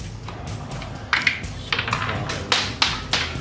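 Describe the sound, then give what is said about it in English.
Dice clatter and tumble across a hard tabletop during a tabletop role-playing game, rolled for saving throws, a rapid scatter of sharp clicks and taps in uneven bursts, fairly loud, with no talking over them. “Dice flying everywhere.”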